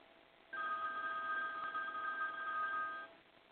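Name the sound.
telephone ringing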